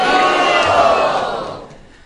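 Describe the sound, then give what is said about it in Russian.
During a talk on the tenth canto of the Srimad-Bhagavatam, a crowd loudly shouts "Haribol" together as thanks, in one sustained burst of many voices, the roar holding steady before fading away over about two seconds. “Поблагодарите его за это громким криком Харибол.”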